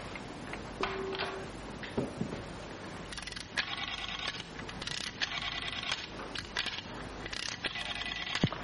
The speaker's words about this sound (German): Komisches Geräusch in der Wand. Tickt immer noch.